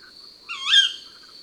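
A female tawny owl gives a single sharp, rising kewick call, clear, over a steady high insect trill that continues throughout.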